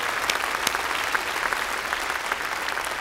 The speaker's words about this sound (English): And if you agree with that, let's thank God by giving applause to him.